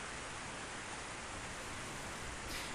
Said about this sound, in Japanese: 雨足、全然弱まらないですね。